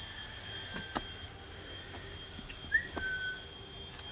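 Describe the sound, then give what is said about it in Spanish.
A person whistles once to greet a dog named Buda: a single short, rising whistle against a steady hiss of background noise, with a few faint clicks scattered around it and no talking. “¿Se dieron cuenta que tiene el mismo silbido que yo uso con Buda?”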